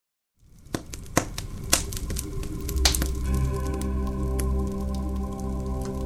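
A campfire crackles inside an iron barrel set in a garage at the edge of a machinery yard, sharp irregular pops and snaps over a steady rushing hiss, with a low humming drone building underneath after the first few seconds.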